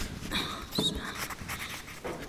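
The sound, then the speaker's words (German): A pen scratches quickly across a notepad in a steady run of short, rough strokes with brief squeaky flicks as someone hurriedly copies down a list of twelve names, no voices. “schreib die schnell ab. Wir brauchen unbedingt diese Information.”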